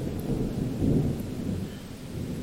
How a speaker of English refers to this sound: I want to take you outside when I hear the storm coming in.